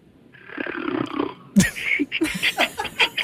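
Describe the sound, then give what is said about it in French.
A person imitates a man snoring with a drawn-out rasping inhale, then a burst of sputtering, rattling snorts and puffs, loud, with no actual talking. “je vais faire mon Alexandre Barrette qui a demandé ça à ma blonde tantôt, mais ça sonne comment, un Pierre qui ronfle, là?”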